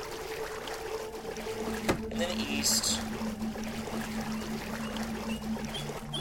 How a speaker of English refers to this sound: And you're going to hear this stupid water. God only knows why there's water in here. But there is, so go north.